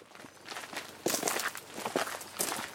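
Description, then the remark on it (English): Footsteps walking at a steady pace from a car park by a visitor centre towards Castell Penryn in Wales, each step a crisp, crunchy scuff, as if on gravel, repeating in an even rhythm for a few seconds with no voices. “We pull into a car park tucked in the trees next to a visitor centre, and then we start walking towards the castle.”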